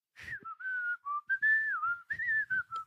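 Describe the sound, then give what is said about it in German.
A person whistles a cheerful, bouncy tune, a clear melody of short and held notes with small pitch slides, fairly loud, with no talking. “Hast du dabei so eine fröhliche Melodei gepfiffen?”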